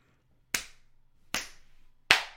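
hand slapping bare skin

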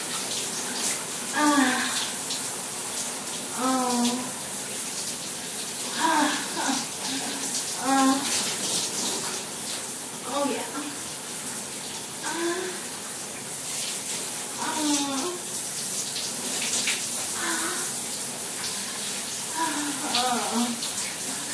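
shower water running

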